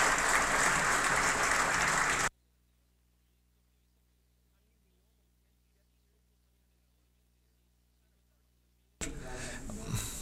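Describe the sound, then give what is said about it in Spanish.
A large audience at a software developer presentation claps loudly for about two seconds, applauding a demo of an iOS device simulated on Windows, before it cuts off abruptly. A long silence follows, then a dense burst of clapping and crowd noise returns near the end. “Pueden aplaudir por eso.”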